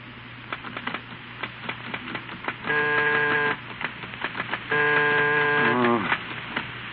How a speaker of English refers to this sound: It's late afternoon, and Steve at his typewriter is trying vainly to concentrate, interrupted repeatedly by the routine of housekeeping.